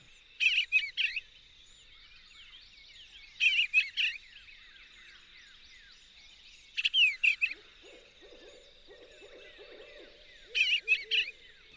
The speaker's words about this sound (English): The bluebird warbles and distant barred owls lifting our spirits and relaxing our minds.